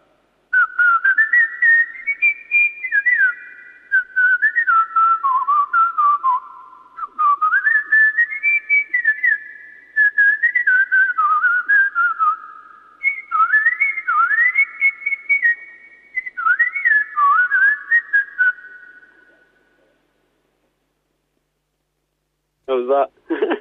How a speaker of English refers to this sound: Okay, now whistling to an orchestral standard and possibly appearing at the Fun and Filth Cabaret. This is his big audition.